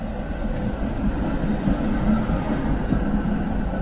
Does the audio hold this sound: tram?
yes